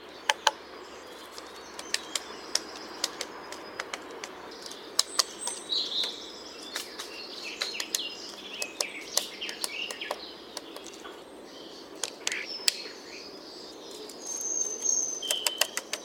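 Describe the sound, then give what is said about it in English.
A woodpecker taps at wood while foraging for insects, in sporadic, irregular, sharp knocks with uneven pauses between strikes. Faint bird chirps and a soft outdoor hiss sit in the background. “Here's a woodpecker foraging.”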